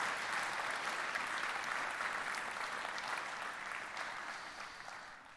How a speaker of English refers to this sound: Let's give them a round of applause one more time as you guys find your seat.